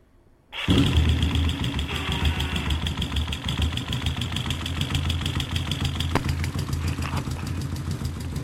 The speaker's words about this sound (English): Okay, I'm going to start the motor, and then I'm going to take the contact mic and move it around the engine and just see how the different parts of the engine sound when it's running, and maybe talk about it a little bit.